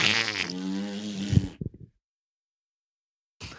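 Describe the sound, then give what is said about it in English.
A buzzy mouth-made fart noise blown for about a second and a half, trailing off into a few short sputters before silence. “Does he laugh when you make fart noises?”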